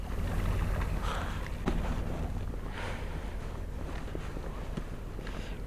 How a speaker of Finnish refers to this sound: Niin kun nyt on sumua, niin totta kai syksysi, keväisi, talvisin, niin merelle ei yleensä näe, mutta sieltä kuuluu jotain. Me nyt kuullaan tuolta kaukaa tuommoista moottoriääntä, mutta suuremmalla osalla ihmisillä se on niin kuin outo.